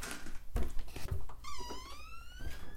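A small toy door squeaks open with a thin, rising-then-falling creak lasting about a second, preceded by a few soft plastic knocks and taps.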